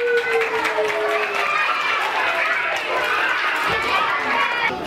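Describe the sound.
A group of young kindergarten children claps steadily for several seconds as a reading of the large picture book 'Ikkayama no Onara Kurabe' begins, a dense, continuous patter of small hands with excited voices mixed in.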